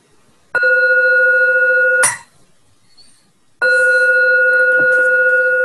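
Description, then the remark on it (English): A bell is struck twice before sung vows, each strike ringing out loud and clear with a long sustained tone, separated by a brief pause, with no one speaking. “She asked me to do the vows, sing the vows and the bells.”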